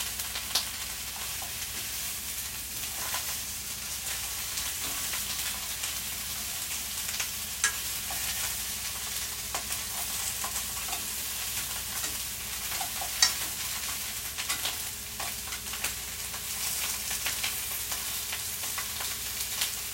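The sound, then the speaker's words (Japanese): Steady sizzling of tube garlic and bacon being lightly stir-fried in a pan, a dense hiss of crackle with occasional sharper pops and faint scrapes of stirring, continuous for the whole stretch with no voices. “ニンニクがチューブだから行き渡るようにしないと固形になっちゃうと思うので、軽く炒めます。”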